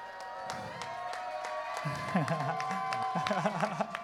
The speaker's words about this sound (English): Mom, I don't know if you can hear, but everybody's clapping for you right now. You get a nice round of applause.